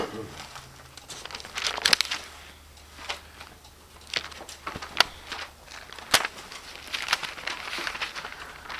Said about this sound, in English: Beloved, the very book that you hold in your lap and the very pages that you and I are turning and you hear the rustling of those pages